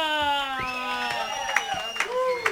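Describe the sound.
During a radio show, a crowd cheers and whoops, with several voices holding rising and falling shouts, while a few sharp, scattered claps break through toward the end.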